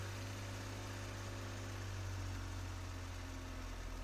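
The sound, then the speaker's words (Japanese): A car engine idles steadily from inside the cabin, a low continuous hum with a faint rumbling vibration, constant in level throughout with no talking. “こうやって俺の車に乗るの初めてだな。”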